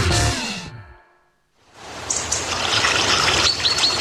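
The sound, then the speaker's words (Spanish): A short descending tonal swoosh fades into a brief pause, then water trickles and flows steadily for the remaining seconds, moderately loud with a bubbly, continuous texture. “Donde fluye el agua, crece la vida en nuestras comunidades.”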